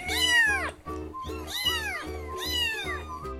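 A cat meows three times in a row, each call a drawn-out, rising-then-falling wail, loud and close, with brief pauses between them and no one talking.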